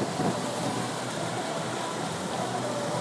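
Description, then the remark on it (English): A steady, continuous rush of water pouring and splashing off a log flume ride fills the scene, a broad hiss with no pauses or voices, evenly loud throughout. “So that's the water off the log flume, I think.”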